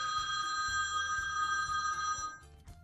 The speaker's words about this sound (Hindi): रुको तो, mobile phone भी ना बार बार बजता रहता है, किसका फोन है?